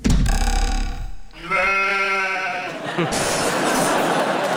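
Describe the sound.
A person loudly imitates a sheep being catapulted into a greenhouse, giving a wavering, trembling bleat, which breaks off into a harsh, hissing burst of noise that continues to the end.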